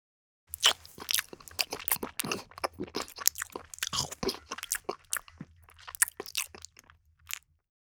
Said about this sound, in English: Man eating scrambled egg.